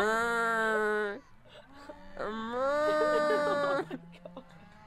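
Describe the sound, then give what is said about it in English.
Two loud, drawn-out cow moos, each lasting over a second with a short pause between them, clear with faint background noise. “We do have cow noises, we have upgraded it.”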